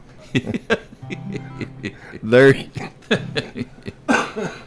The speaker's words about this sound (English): You're bringing that cough back.